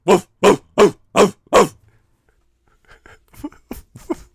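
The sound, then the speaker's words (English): A person does a Pound Puppies impression, imitating a puppy with five quick, evenly spaced yapping barks, loud and high-pitched, followed by a pause and then quiet, murmured talking. “Oh, that was your pound puppy impression.”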